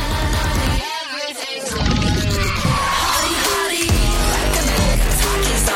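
A loud, chaotic pop track with a dense, crashing texture, wavering screechy high tones sliding over heavy low beats that drop out briefly before slamming back in. No one speaks.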